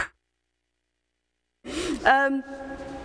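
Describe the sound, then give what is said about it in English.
After a stretch of silence, one short, breathy cough bursts out, followed by a brief voiced throat sound that holds a steady tone before trailing off, as a speaker coughs before leading a prayer. “But first of all, I'm just going to have a little cough so I don't do it in the prayer.”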